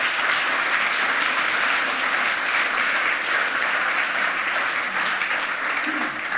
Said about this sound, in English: Please give her a warm round of applause of welcome.